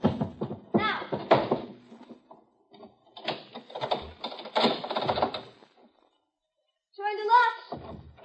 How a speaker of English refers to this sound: Now, you'd have to move that chair out of the way so he can get at the locks. I'm doing it.